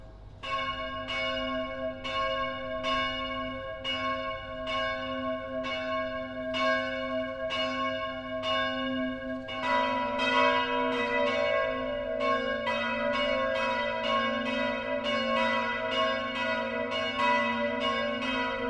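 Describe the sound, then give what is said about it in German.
Church bells of the Evangelical Lutheran town parish church St. Matthäus in Passau, Lower Bavaria, ring the 12 o'clock midday peal, steady regular strikes with a long sustained hum, joined about halfway by more bells in a denser, overlapping rhythm. No voices. “Das Mittagsläuten kommt heute von der evangelisch-lutherischen Stadtpfarrkirche St. Matthäus im niederbayerischen Passau.”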